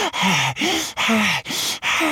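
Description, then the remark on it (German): Heavy, out-of-breath panting: about five rapid, voiced gasping breaths in a steady rhythm, loud and breathy, a voice acting out the exhaustion of a little duck after hurrying along. “Als sie ankommen, atmet die kleine Ente ganz schwer und ihr Herz klopft laut.”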